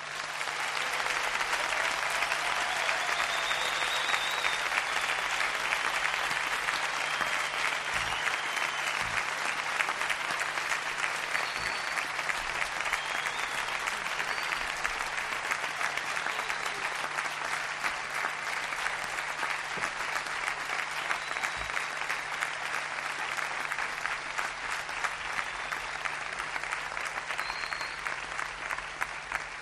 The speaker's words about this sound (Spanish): Y de manera especial, si me lo permitís, quiero pedir un gran aplauso con nuestro agradecimiento y oración a nuestros voluntarios.